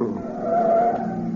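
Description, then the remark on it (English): A car engine roars as tires squeal through a sharp turn, a bright sustained screech rising over the steady motor rumble for about a second before easing off. “The next corner, put out your hand to signal for a right turn, then quickly swerve left to a short stop.”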